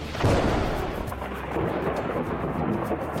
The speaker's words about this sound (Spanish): En el Catatumbo, en norte de Santander, el trueno forma parte del paisaje. Las tormentas cruzan las montañas con fuerza que hacen temblar los techos de zinc y sacuden los ríos y retumban entre las veredas como si la tierra misma hablara.